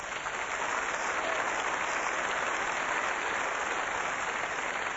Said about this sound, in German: Applaus.